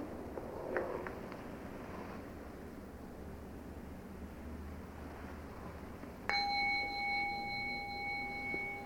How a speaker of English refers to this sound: You see, the bell came out of nothing, floated off, off, off, off, and then stopped being a sonic echo and became a memory, which is another kind of echo, a wake.